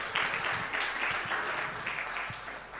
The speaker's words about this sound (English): Okay, give yourselves a huge round of applause.